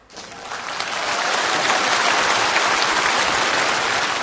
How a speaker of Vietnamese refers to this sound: Sư rất là cảm ơn với những tiếng vỗ tay chân thành đó.